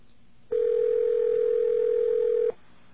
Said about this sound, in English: I should have to reconnect this line over here, and we'll try it one more time. I guess we'll ask for the same number. Get our dial tone.